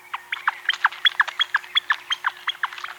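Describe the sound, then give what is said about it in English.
A flicker, a common backyard woodpecker, calls a quick, steady series of squeaky, paired notes, like a repeated "flicka, flicka," clear with no voices. “The flicker, a common backyard woodpecker, sounds a little bit like it's saying flicka, flicka.”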